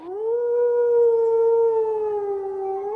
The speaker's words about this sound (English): Red wolves can be heard and in some rare instances seen in southeastern North Carolina.